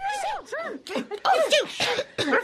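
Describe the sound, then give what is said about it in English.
A quick string of voiced, theatrical sneezes from several people, overlapping bursts with rising and falling pitch, done vocally in imitation rather than as real sneezes, as everyone starts sneezing in an Alice story after the cook is called as a witness and says tarts are made of pepper. “Everybody started sneezing.”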